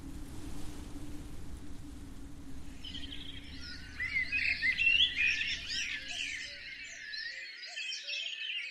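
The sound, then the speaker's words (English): A ring ouzel, a pied bird of rocky mountain peaks, sings a melancholic song of rapid, fluting phrases repeated over several seconds, with a low wind-like rumble underneath that drops away near the end. “The pied guardians of our rocky peaks with their evocative melancholic tunes.”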